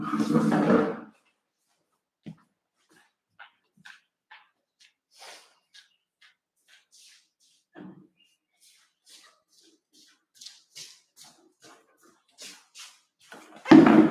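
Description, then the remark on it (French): Scattered knocks, scrapes and creaks as a breaking chair is swapped for another and moved around, with brief pauses between the bumps; a short burst of speech opens and closes the sequence. “Je vais changer de chaise, parce que cette chaise est en train de se casser la tête.”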